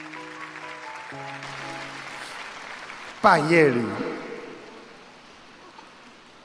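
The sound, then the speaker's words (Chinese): Steady crackling applause from an audience, with a brief musical tone at the start; partway through, a man begins speaking over the clapping as it gradually fades. “还没鼓掌完呢”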